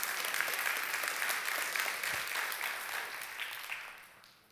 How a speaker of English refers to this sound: It's okay, you can clap on that one. That's a pretty big deal, okay?